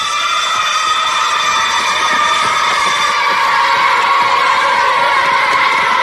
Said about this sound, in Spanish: Luego llegaba el momento, sonido de patio de colegio.